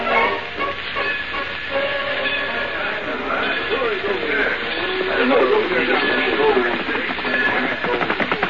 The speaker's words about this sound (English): I got it all fixed for the engineer. You drive this choo-choo real slow to the man on horseback and keep up with it.